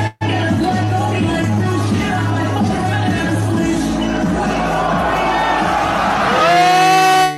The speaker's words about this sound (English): He has another video where the crowd goes crazy because he does this.